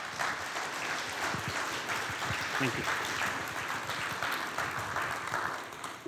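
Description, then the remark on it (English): An audience applauding to welcome a speaker, a steady dense patter of many hands clapping, with a single voice speaking briefly over it. “We don't usually clap. Let's.”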